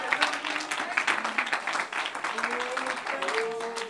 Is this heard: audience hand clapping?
yes